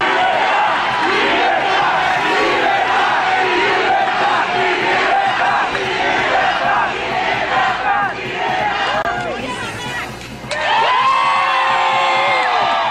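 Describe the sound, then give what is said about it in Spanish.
A large, loud crowd of Machado supporters shouts and cheers in unison, singing and chanting slogans for a free Venezuela, voices overlapping in rhythmic chants with whoops rising above, continuous throughout with a brief dip before the roar resumes. “Seguidores de Machado entonaron canciones y gritaron consignas por una Venezuela libre.”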